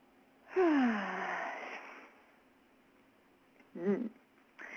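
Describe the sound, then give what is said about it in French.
A long, deep breath, drawn in loudly and released over about a second and a half, followed a little later by a short voiced sound; no one speaks. “Et tu prends une grande respiration.”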